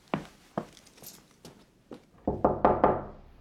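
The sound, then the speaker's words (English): Someone knocks on a door, five evenly spaced raps followed by a quick burst of four louder, heavier thumps, with no voices. “Amber? Open the door.”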